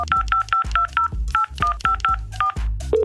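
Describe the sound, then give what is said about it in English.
A rapid series of touch-tone beeps as a phone number picked at random from a list is dialed to call a winner, about a dozen short paired tones in quick succession, clear with no talking over them. “All right, we're going to call him right now.”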